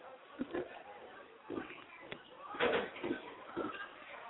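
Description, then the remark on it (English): A booth door at a football game slides shut in a few rough, scraping pushes with a sharp knock partway through, over steady background noise and faint muffled voices, as rain and wind come into the booth. “Oh, close that door.”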